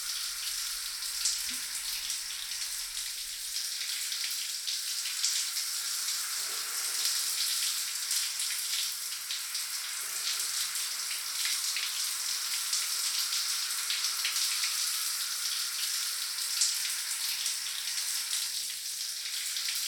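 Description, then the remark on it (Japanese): Hot water streams steadily over wet hair as the hair is thoroughly wetted before shampooing, a continuous shower-like hiss with faint patters and splashes, holding at an even level throughout with no voices. “最初にお湯でしっかり濡らすのが大事なんだそうです。”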